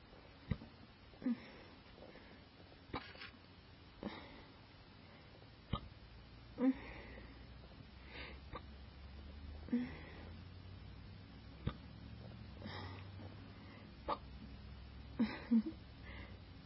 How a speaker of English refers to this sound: So, like, when I'm not talking, I always sigh after the hiccups. People think that's weird, but whatever.